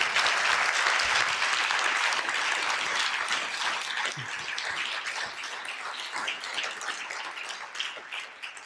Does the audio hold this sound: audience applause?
yes